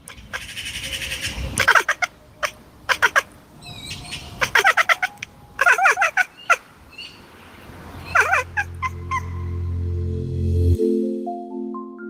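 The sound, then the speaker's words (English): A cat chatters at birds outside that are just out of reach, in quick, stuttering bursts repeated several times, followed by softer twittering calls as a low steady hum rises underneath. “It's a sound that seems to be reserved for prey animals that are just out of reach.”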